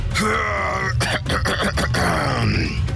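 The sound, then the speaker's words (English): A voice imitates a grumpy car engine struggling to start, with a loud, continuous groaning and grunting drone broken by a quick run of sputtering pulses in the middle. “Toyota engine is always grumpy. That's because it doesn't use Toyota oil. This is what it sounds like every day.”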